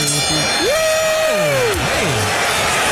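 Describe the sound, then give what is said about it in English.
A loud, steady roar of crowd cheering fills the whole stretch, with swooping whistle-like tones rising and falling over it. No one speaks. “The crowd's going wild.”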